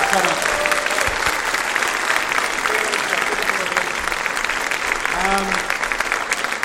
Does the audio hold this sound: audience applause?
yes